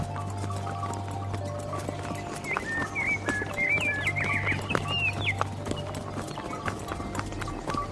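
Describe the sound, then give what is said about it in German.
Steady clip-clop of a ridden horse's hooves at a walking pace, moderately loud, with chirping birds and a low background hum throughout. “Mit jedem Schritt, den das Pferd zwischen mich und das fürchterliche Hotel legte, atmete ich freier.”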